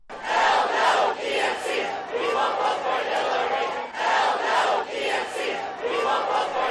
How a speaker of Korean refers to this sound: 또 어제 성난 샌더스 지지자 수백 명이 전당대회장 밖에서 시위를 벌였는데요. 클린턴 후보를 절대 지지하지 않겠다는 구호를 외치기도 했습니다.